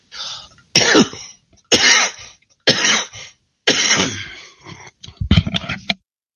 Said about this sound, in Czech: kašlíček, ale je opravdu hustý